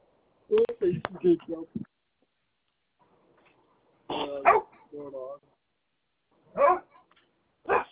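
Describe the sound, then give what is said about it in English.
A dog named Milo barks in loud, irregular bursts, a quick cluster of barks, then a pause, then a few more sharp single barks spaced apart. “What are we barking at?”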